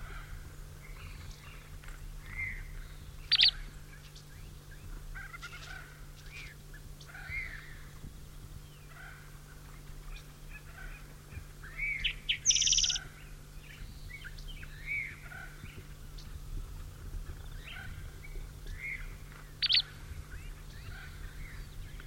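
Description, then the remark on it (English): Short, sharp bird chip calls from one of a pair of birds, the one not carrying material, ring out a few times at irregular intervals, clear, over a steady low hum and fainter chatter of other birds. “These chips are the bird with out testing material.”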